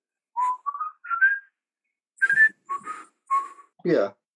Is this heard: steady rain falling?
no